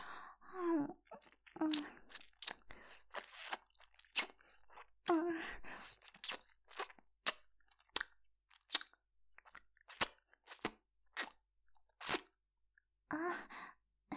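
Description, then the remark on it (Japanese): Wet licking and nibbling on an earlobe: an irregular run of sharp, sticky smacks and clicks, with a few soft, breathy vocal sighs between them and no speech. “私の耳舐めで気持ちよくなってくれてて嬉しいな。”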